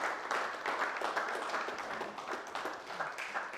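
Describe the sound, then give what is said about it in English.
A crowd applauds steadily for a few seconds, giving God a big round of applause this morning: a dense wash of many overlapping hand claps at an even loudness with no one speaking over it. “Why don't we just give this God a big round of applause this morning?”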